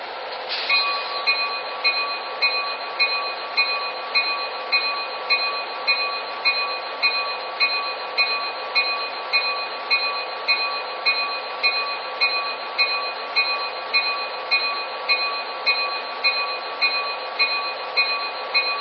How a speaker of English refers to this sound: cabin corridor, train number 534.